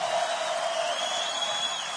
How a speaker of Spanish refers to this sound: Y escuchen lo que va a ocurrir ahora. Ovación para los dos.